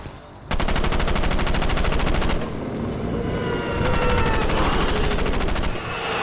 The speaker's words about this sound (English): It was only when gunshots screamed from the corner of the room, Vorin unloading his automatic rifle into the body of the demonic boy, was Wesley able to move.